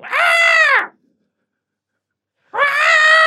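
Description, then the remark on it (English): A voice imitates an ape's screech in two loud, harsh, strained bursts, each under a second long, with a silent gap between them; no words are spoken. “His legs are kicking, though, and he's screeching.”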